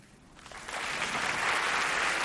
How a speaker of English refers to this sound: Clap if you knew your person 5 years or less.